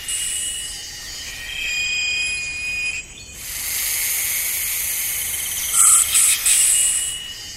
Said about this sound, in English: As the afternoon wears on, a different set of players begin to warm up. Insects work in harmony, timing their calls to fall between the notes of others.